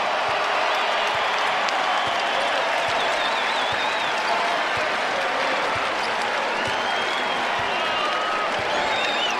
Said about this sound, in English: The Cougs have done it. The comeback Cougs have done it. We'll let the crowd take it away for a few seconds.